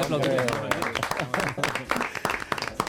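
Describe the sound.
An audience applauds with a burst of quick, overlapping claps that crackle steadily for a few seconds, mixed with people talking and voices over the top.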